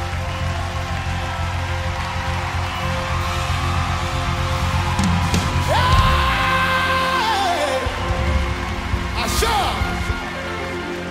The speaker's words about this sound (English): Oh, clap your hands so you keep it. As you clap, you are...